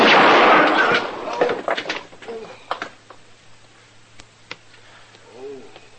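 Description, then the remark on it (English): A single loud gunshot that hits a gun held by another man bursts out at the start and rumbles away over a second, followed by a few sharp clicks and knocks, with a faint bird coo near the end. “I hit the gun.”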